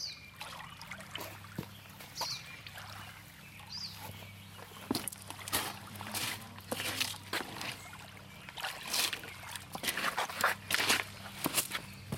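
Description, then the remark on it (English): Footsteps crunch steadily as a handmade canoe is carried down to the water, followed by sloshing and trickling splashes as the boat is set in, with a low hum underneath. “What I'll do is carry it down here and put it in the water here.”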